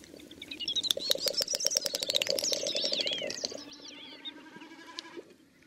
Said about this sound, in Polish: W tle słychać innego bekasa, krzyka, wykonującego swój lot tokowy.